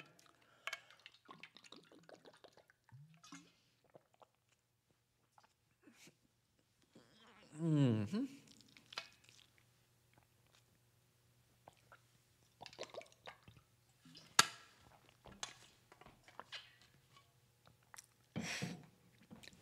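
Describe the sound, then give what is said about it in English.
Quiet drinking of water: small wet sips and mouth clicks scattered through, with a louder gulping swallow about midway and a few more faint sips afterward. “That sin, let me drink some water.”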